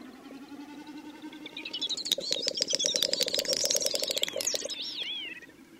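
A displaying bird gives a run of soft, dry clicks that start sparse and speed up into a rapid rattling series, with a faint wavering whistle near the end.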